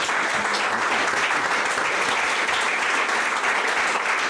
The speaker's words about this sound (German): Einen herzlichen Applaus.